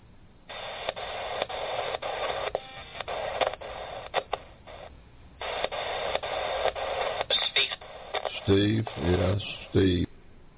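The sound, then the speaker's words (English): A radio scanning quickly through stations, choppy bursts of tinny, band-limited sound and voice fragments cut off every fraction of a second, with a couple of brief pauses and louder snatches near the end. “It was just, you could hear the radio sweeping.”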